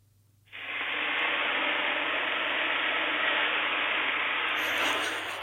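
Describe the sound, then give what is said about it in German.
A sauna infusion (Aufguss): water with a mountain pine (Latschenkiefer) scent from the Bavarian Alps hits hot sauna stones and erupts into a loud, steady hiss of steam that starts abruptly and holds evenly for about five seconds over a low background hum. “Wir starten mit einem Aufguss und einem wunderbaren Duftmittel, und zwar Latschenkiefer aus den Bayerischen Alpen.”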